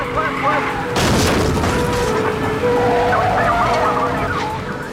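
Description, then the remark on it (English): A stolen car driven by teens fleeing a police pursuit crashes into a stalled car with a sudden loud boom about a second in and ricochets off another, followed by heavy crunching and rumbling noise as voices and other sounds carry on in the background. “The teens slam into a stalled car and ricochet off another.”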